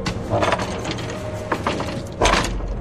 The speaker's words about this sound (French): J'ouvre la porte de l'antre de Zangdar.